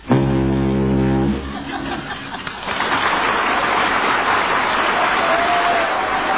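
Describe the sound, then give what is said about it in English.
A man from Norwich, an impressionist, imitates a foghorn with one loud, deep, droning blast lasting about a second and a half, quickly followed by sustained applause from a studio audience. “who is not a foghorn.”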